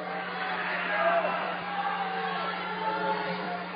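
Carroll basketball fans at a game against Forest City keep up a steady wash of cheering and crowd noise, with clapping blended into the roar and murmured chatter throughout.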